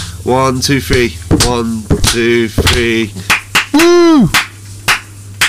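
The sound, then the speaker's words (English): Scattered sharp hand claps ring out among loud, overlapping voices calling and cheering, including a rising whoop, the claps landing unevenly rather than in one tidy rhythm. People clap three times on a count of one, two, three as they say goodbye. “You for clap three times. Clap at the end. One, two, three.”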